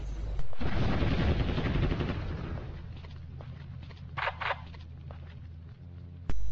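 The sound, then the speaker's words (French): Loud bursts of gunfire from a Terminator video game open with a sharp blast, trail into rumbling rapid fire that fades, then two quick shots follow and one more blast lands at the end. No one speaks. “Les bruitages sont de très bonne qualité et les T-800 qui rôdent pourront vous donner un coup de stress de temps à autre.”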